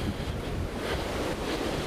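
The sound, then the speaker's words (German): Strong wind buffets the microphone outdoors, a steady low rumbling roar with gusty swells throughout, loud, with no voices. “Irgendwas sagt mir, das ist hier ernsthaft zu windig.”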